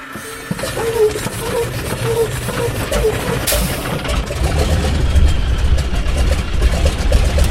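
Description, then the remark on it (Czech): The engine of a yellow Čmelák crop-dusting aircraft, already warm, is started after switching on the electrics, unlocking the oil and priming a little. It turns over and catches, then settles into a steady, loud low-pitched idle whose rumble thickens and grows heavier about halfway through. Windless early morning. “pustíme si elektriku, odblokujeme olej, trošku tam stříkneme, je to teplé, takže nepotřebuje moc a můžeme startovat.”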